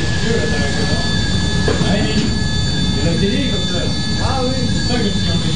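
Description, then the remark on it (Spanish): Loud, steady roar of ventilation pipes in the underground galleries of a radioactive waste storage research site: dense rushing rumble with thin high whining tones running through it, unbroken for the whole stretch, with muffled voices of workers and scientists faintly underneath. “en medio del ruido intenso de las tuberías de ventilación, obreros y científicos observan las características de la roca”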